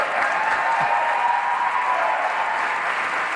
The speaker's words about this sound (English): Needless to say, that wild applause was only coming from, you know, one side of the chamber, and I really thought you could hear everybody yelling "Oh snap!" all at once.